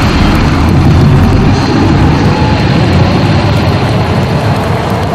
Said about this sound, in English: Press space. Maximum power to the jet engines. Go!